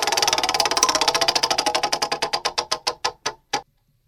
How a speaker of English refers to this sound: I want to spin the wheel of questions